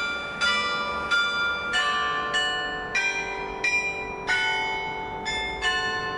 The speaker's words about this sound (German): Heute gehört die Ägidienkirche zur Marktkirchengemeinde und seit 1958 ertönt stündlich ein Glockenspiel, das im selben Jahr auf den Turmstumpf gesetzt wurde.